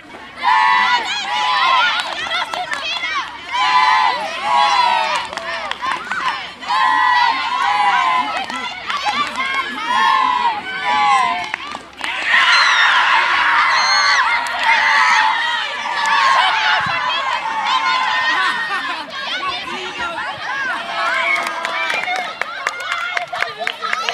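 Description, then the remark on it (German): Schoolchildren cheer and shout excitedly during a ball-over-rope game at a school sports festival, a dense, high-pitched crowd of young voices rising and falling continuously, with scattered claps and louder bursts of shouting. “Die Jugendlichen sind mit ganzer Motivation, wie hier beim Ball über die Leine, mit dabei.”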